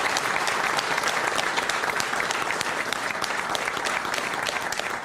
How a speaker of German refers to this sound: Michael, das ist dein Applaus.